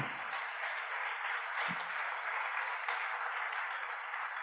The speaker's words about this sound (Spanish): Un aplauso ahí.